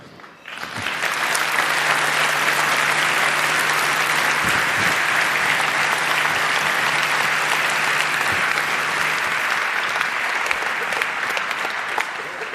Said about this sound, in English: So if I understand the CCC, normally you make an applause at the end, but please don't make it just to me, but also to all the proud contributors.